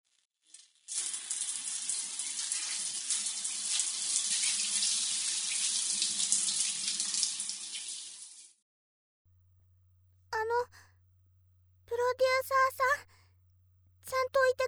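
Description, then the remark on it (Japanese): Shower water runs in a loud, steady hiss for about seven seconds and then cuts off, leaving a low hum and a few short bursts of a voice. “それと、今の運動で汗をかいてしまったので、できればシャワーを浴びたいのですが、お願いできますか？”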